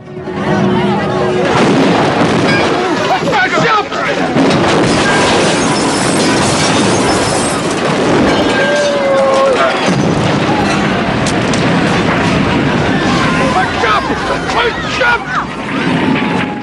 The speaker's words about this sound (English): Bennett's car repairs garage explodes.